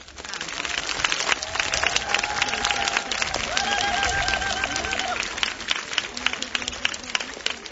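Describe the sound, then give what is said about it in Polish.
A crowd at a rosary prayer gathering breaks into steady applause, dense rapid clapping sustained throughout at an even loudness, with a few voices and faint tonal calls rising briefly over it before the clapping thins out toward the end. “I brawa dla Madzi.”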